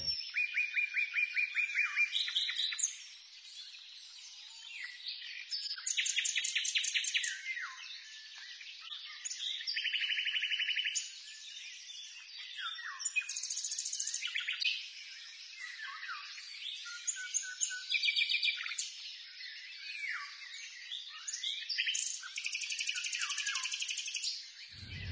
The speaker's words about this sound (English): These warnings that birds are sending us can be heard in your own backyard as well. Listen to the songbirds. You'll find, if you listen closely, that their songs are changing too.